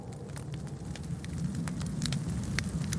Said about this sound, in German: Plupp, plupp, plupp. Die Tropfen klingen so regelmäßig wie eine alte, viel zu laute Wanduhr. Plupp, plupp, plupp. Die Blechtasse ist schon halb voll mit der roten Flüssigkeit.